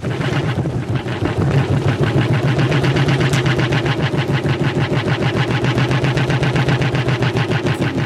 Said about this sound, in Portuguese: Não, isso parece-me um motor de arranque, uma coisa qualquer, a tentar começar. Não está tudo muito longe da verdade. Ah, não? Ou seja, é um carro, de facto.